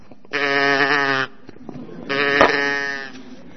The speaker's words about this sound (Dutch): Kijk, hier zijn ze. 7 van die hele dikke, vette koeien.